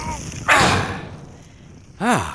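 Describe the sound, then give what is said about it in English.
A door is pushed shut with one brief, fairly loud thud and rush of noise, then quiet, followed by a short voiced exclamation near the end. “Let's close up the door here.”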